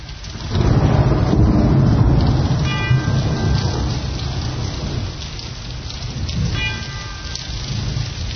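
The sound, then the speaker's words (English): Steady, heavy rain hisses throughout while low thunder rumbles in from about half a second, swelling loudest early on and rolling again later. No voices are heard. “It's getting a little wet out there. Bring an umbrella.”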